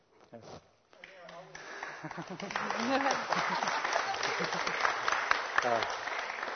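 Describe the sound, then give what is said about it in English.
A Norwegian church audience breaks into sustained, steady applause during a service that swells within a couple of seconds and holds loud and even, with a few voices audible at the start before the clapping takes over. “You know, the Norwegians, they are not impulsive at all, and when they are applauding, that has to be good.”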